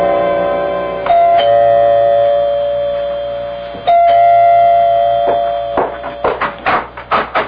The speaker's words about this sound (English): You can go to his apartment. You can ring the doorbell. One thing about doorbells, they don't give off busy signals.